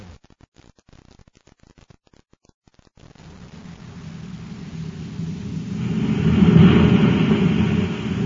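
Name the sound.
rocket ship blasting off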